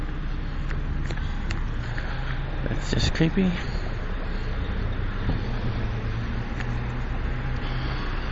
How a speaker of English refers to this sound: And ew, there is a Greyhound bus just leaving.